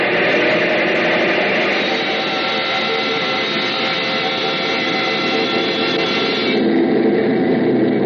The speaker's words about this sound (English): Well, sure. Bring up number one engine to maximum RPM.